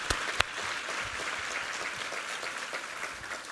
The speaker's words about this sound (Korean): 할렐루야. 우리 하나님께 감사와 영광의 박수를 드리겠습니다.